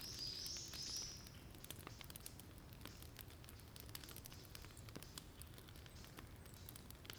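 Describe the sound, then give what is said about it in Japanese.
A fire crackles steadily, with scattered sharp pops and snaps over a low, continuous rumble of burning, briefly joined by a high hiss at the start. “いい音じゃな。パチパチと。小気味良い音が何とも言えぬ。”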